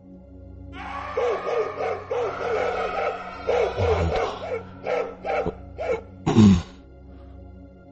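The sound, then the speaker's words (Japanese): A dog barks in a rapid, uneven series of sharp yelps, moderately loud, over a steady low rumble before the barking stops. “犬？まさかオッサムか。”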